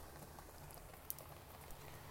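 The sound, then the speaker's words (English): Soft, steady rain hisses evenly throughout, with a few isolated drips popping out of the wash. It sounds fairly quiet, with no voices. “You want to cuddle in bed and listen to the rain?”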